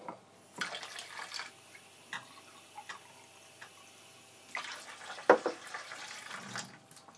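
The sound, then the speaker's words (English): Water runs from a tap into a glass in short bursts amid small clinks and clatter, with a steadier gush near the end, during a coffee cupping session. It is moderately quiet, with no talking. “I'm going to grab a glass of water to make sure I've got a clean palate, and this is all done above the books.”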